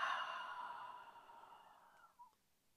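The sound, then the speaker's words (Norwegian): One long, breathy exhale through the mouth, fairly soft, starting strongest and gradually fading over about two seconds, with no talking; part of a guided breathing exercise of breathing in through the nose and out through the mouth. “Og ut gjennom munnen.”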